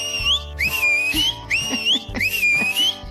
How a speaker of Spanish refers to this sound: Me encanta escuchar esos silbidos.